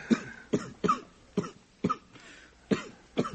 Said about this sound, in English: Is he coughing again? No, I'm coughing for him. I don't like that cough. What? An old friend like that cough?